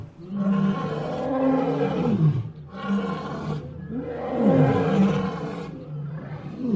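Several lions roar together in overlapping, rumbling bellows that swell in two long bursts with a short dip between, loud, with no talking.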